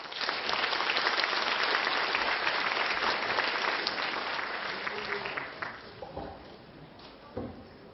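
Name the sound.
warm audience applause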